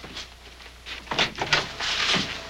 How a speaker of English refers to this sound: Roger opens the door to the hotel maid.